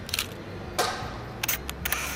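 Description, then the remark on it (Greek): A camera shutter clicks several times: a crisp snap early on, a louder one a moment later, then a quick cluster of sharp mechanical clicks over a low steady hum, with no voices. “Απ' την άλλη είναι ένα απλό κοινικό κλικ.”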